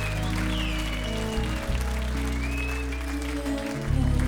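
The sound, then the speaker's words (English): Steady applause from a crowd, a dense crackle of many hands clapping that lasts throughout, over a low droning bass tone that holds beneath it. “Let's give music a nice round of applause because of music we are gathered here tonight.”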